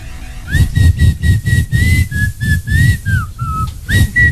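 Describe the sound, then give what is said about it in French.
A clear, sustained whistled tune holding long notes that step down and back up in pitch, playing over a steady, pulsing low beat, with no talking. “Parce qu'il faut toujours accorder son tiki siffle.”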